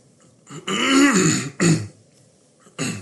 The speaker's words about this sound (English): I apologize that I've had to clear my throat so much during this, but appreciate you all bearing with me.